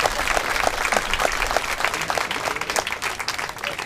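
Steady audience applause at a camp, a dense patter of many hands clapping at an even, fairly loud level throughout, with faint voices mixed in underneath.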